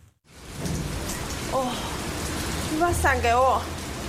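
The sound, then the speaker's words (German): Heavy rain pours down in a city in Taiwan in a steady, dense hiss throughout, with a few raised, tonal voices cutting through briefly near the end. “Es regnet in Strömen und eine Teenagerin streitet sich auf dem Dach eines Gebäudes mit ihrem kleinen Bruder.”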